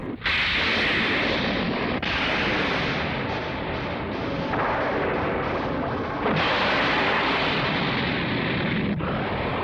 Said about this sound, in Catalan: Les boles s'il·luminen cada cop més ràpid. La tempesta es va acostant i descarrega llamps damunt les boles.